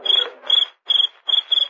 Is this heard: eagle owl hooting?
no